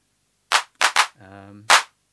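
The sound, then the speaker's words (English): Four dry drum machine hand claps with the hand clap reverb switched off, in an uneven rhythm, sharp and crisp with no reverb tail, with a short low humming synth note between the third and fourth. “I'm going to leave the hand clap reverb off now because we can listen more clearly to the other part.”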